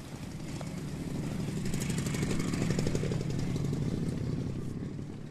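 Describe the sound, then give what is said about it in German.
A motorcycle engine rumbles steadily on a street shared with a German Bundeswehr patrol, the rider stopped 20 metres before the soldiers; its throbbing growl swells slightly louder midway before easing off again, with no voices. “Auch ein Motorradfahrer, der sich zufällig auf derselben Straße bewegt wie die Bundeswehrpatrouille, wird in 20 Metern Abstand vor den Soldaten gestoppt und muss warten, bis die Deutschen vorbeigegangen sind.”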